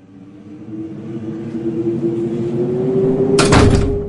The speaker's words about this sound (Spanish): ¡Qué susto! ¿Quién cerró la puerta? ¡Yo no fui! Yo tampoco.